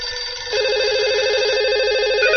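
A telephone rings with a steady, trilling electronic warble that starts after a brief pause and continues loudly and unbroken to the end, with no voices over it.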